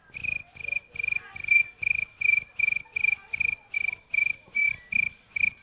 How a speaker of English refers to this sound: And finally, the crickets. I've always enjoyed crickets. You know, they're a lot of fun.